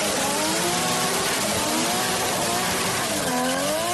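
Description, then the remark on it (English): Loud stock car racing engines roar and rev continuously, their pitch sweeping up and down as cars pass by, with a dense wash of racing noise and no voices. “Also back on the track is stock car racing, as NASCAR crews are working on cars right now for a run Sunday at Darlington Raceway in South Carolina.”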